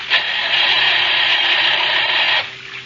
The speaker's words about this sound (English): Oh, gosh, he won't start. Maybe some water got into the engine.